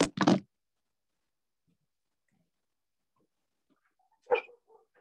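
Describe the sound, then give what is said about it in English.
Dogs next door bark, heard through a window: two quick, sharp barks at the start, then near silence before another short bark followed by faint yips, all somewhat muffled. “I'm going to just shut the window, because the dogs are barking next door.”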